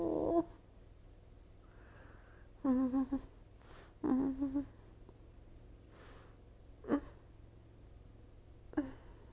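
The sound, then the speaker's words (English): A cat meows repeatedly from another room for attention, with about five drawn-out, tonal calls spaced irregularly over several seconds against a quiet background with a low steady hum. “Oh, meow. At you from the other room until you pay attention to me. Meow. Meow.”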